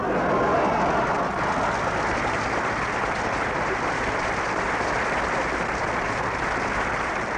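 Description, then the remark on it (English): Sustained audience applause for the cast of The Yiddish Are Coming, with Lou Jacoby: a dense wash of many hands clapping at steady volume for several seconds without a break, with no one speaking over it. “A round of applause for the Yiddish Are Coming cast with Lou Jacoby.”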